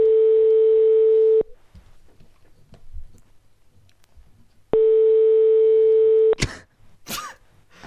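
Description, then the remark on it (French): A telephone ringback tone sounds twice, each a steady buzzing purr of about a second and a half, separated by a long pause, followed by a few sharp clicks and rustles as the line picks up. “Attention, ça sonne, c'est le vieux.”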